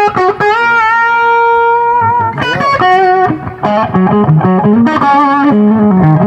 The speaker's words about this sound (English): And then you can switch on the overdrive channel